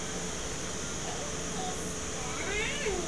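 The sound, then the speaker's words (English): A cat meows as it is being fed, over a steady hiss of background noise: a short, faint mew partway through, then a longer, louder rising meow near the end. “Right, feeding the cat.”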